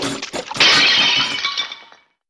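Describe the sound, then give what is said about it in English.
A loud crash of dishes shattering as a household robot washing them breaks them all, with a burst of bright ceramic and glass breaking that rings and tinkles for over a second before fading out. “Oh, Chip, you broke all the dishes.”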